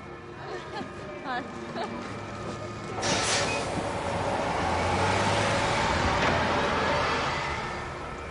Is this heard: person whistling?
no